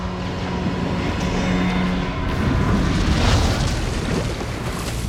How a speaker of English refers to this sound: The lights on the ship go out. Explosions continue throughout the ship, illuminating the water.